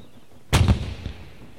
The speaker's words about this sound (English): Suddenly, there was a loud noise. The boys ran to the beach. A steamboat was on the river about a mile away. The noise was from a big gun on the steamboat.